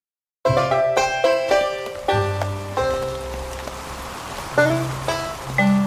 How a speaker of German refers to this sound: Es regnet in Strömen.